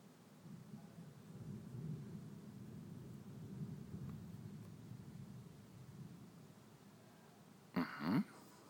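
thunder

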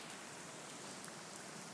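rain falling outside

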